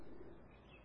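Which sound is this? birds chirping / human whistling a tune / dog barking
birds chirping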